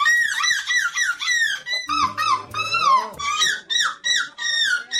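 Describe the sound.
Human voices imitate seagull calls at an annual seagull imitation contest in the Belgian coastal town of De Pan, in a rapid series of loud, shrill squawks that rise and fall in pitch, with one longer, wavering wail midway and no speech.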